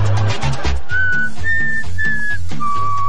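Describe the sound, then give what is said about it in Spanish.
A person whistles a short four-note tune, clear, each note held briefly with small gaps between them, over a low rumbling background. “El silbido de Sin Saco lo tengo así como grabado en mi cabeza.”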